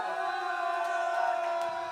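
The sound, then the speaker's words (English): A large concert crowd cheers and roars continuously, a dense, steady wall of voices and whoops filling the space without any break for the full two seconds. “You are an awesome crowd.”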